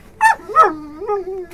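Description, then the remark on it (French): A couple of sharp, high-pitched dog yips ring out, followed by a longer, wavering whine that trails off. No one speaks. “Bonjour mes toutous. Même les plus pénibles.”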